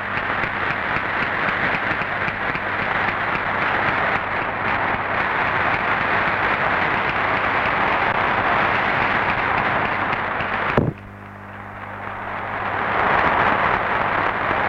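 The Spanish parliament chamber, standing without exception, applauds at length the presence of King Juan Carlos, Queen Sofía and Prince Felipe, a dense, steady roar of many hands clapping. After a sudden break near the end it drops back, then swells again to full strength.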